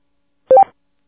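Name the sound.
DTMF telephone keypad tones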